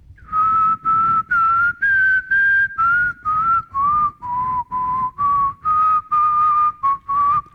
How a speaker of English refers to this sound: So as we can see, if I whistle, it gets a really nice pure sine wave.